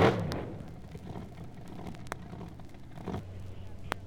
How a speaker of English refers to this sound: The fastest cars. Those are the AA fuelers, and here they are. The finalists, the two top cars. Tommy Ivo now on the street side.